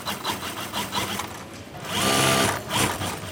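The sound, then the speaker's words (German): About 50 sewing machines at a textile company, worked by seamstresses in two long rows sewing cotton fabric into bath towels, whir and rattle together in time, overlapping rhythmic stitching bursts with a louder swell of motor hum midway, no voices. “Es klingt fast wie ein Orchester, wenn die rund 50 Nähmaschinen im Takt über den Stoff fahren.”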